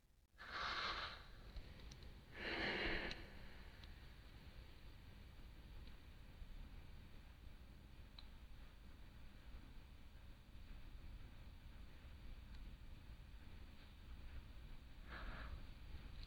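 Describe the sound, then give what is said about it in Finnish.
Several slow, deep breaths whoosh in and out during a guided group breathing exercise, two close together at the start and another much later, moderately loud against a steady low hiss with long quiet stretches and no talking. “Voiko sitten päästää irti tästä neutraalista ja muutaman kerran taas hengittää syvään?”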